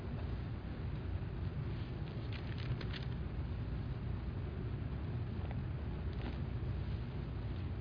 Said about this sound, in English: Well, I love the sound of turning pages.